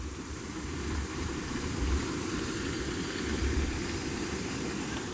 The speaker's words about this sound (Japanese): 川の音もしてるし、人工の滝があって、うん、滝の音が多分今入ってるんですよ。 ノイズキャンセルしたらね。 いやいやいや、 ノイズキャンセルしなかった。 今ノイズキャンセリングしてないの。 あ、してない。 なので皆さん滝の音を今10秒ぐらいご堪能ください。